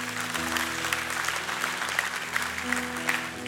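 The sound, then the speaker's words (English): A large group applauds steadily for several seconds, a dense wash of clapping over held low organ or keyboard chords, with no one speaking. “You can clap for that.”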